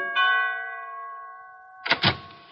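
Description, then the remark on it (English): A doorbell at 975 Park Avenue chimes once with a bright, steady tone that rings on and slowly fades, then a few quick clattering knocks of the door being opened cut in at the end. “I guess you'll have to answer the door a little quicker after this”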